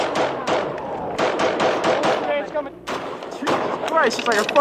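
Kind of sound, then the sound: gunfire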